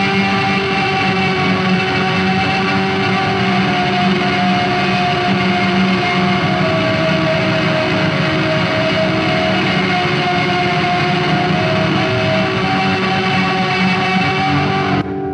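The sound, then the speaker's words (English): A loud, sustained electric guitar played with distortion and no reverb drones steadily with a shimmering, wavering chorus-like quality, dense and unbroken for about fifteen seconds before cutting off abruptly, with no talking. “And so when you throw it on distortion and do this, you get like a cool like.”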